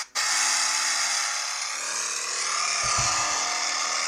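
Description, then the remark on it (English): A car engine revs hard and steadily while the car is stuck and not moving, giving off a lot of smoke, a loud, continuous high-pitched whining roar that barely changes, with a brief low rumble past the midpoint and no talking. “This car is not moving. So much smoke.”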